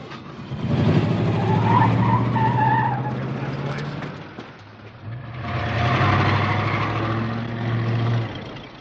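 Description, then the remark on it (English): A car engine roars as tires squeal and skid in two long, loud bursts, separated by a brief dip in noise, sustained. “I don't think I should be driving.”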